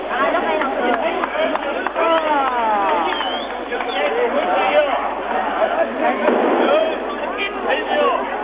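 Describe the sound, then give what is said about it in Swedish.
A dense crowd scene in East Germany: the crowd applauds the East German people's police as muzzled police dogs bark and youths are thrown into trucks, amid shouting voices, continuous and fairly loud throughout, with a narrow, old-recording quality. “Hundar med munkorgiga skäller och folkmassan applåderar.”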